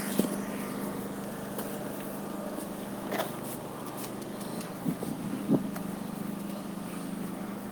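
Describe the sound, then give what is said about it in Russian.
A vacuum cleaner runs steadily, a continuous whirring drone with a low humming tone underneath, broken by a few brief knocks and clicks; no one speaks. “Походу это пылесос.”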